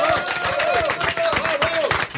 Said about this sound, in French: Voilà, et puis on va applaudir un petit peu Rock FM quand même parce qu'il mérite.